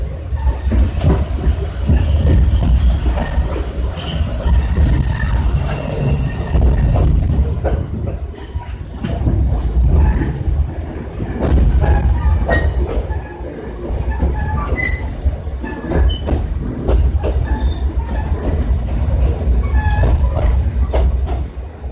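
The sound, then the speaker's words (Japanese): A one-man train bound for Choshi pulls out of 十川 Station after a departure bell and the doors closing, its heavy low rumble steady throughout, with rhythmic clacking of wheels over rail joints and occasional faint high squeals. No one speaks. “はい、ちょっと聞きづらかったと思うのでちょっと解説をしますとですねこれ十川駅を出発する時の模様なんです。”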